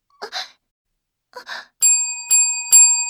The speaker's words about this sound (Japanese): 今呼び鈴を鳴らしちゃう。